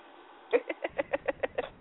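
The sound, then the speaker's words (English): An owl-like call of about eight short, rapid hoots in an even rhythm, fairly loud, with no talking over it. “Will you shut up, you damn owl?”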